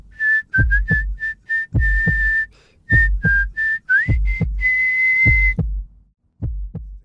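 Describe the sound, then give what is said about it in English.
A person whistles a bright tune in a clear, steady tone, with short notes and one long held note, over a rhythmic low thumping beat. No one speaks. “You wonder if anyone still whistles anymore?”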